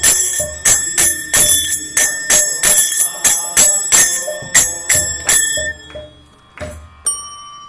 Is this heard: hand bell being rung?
yes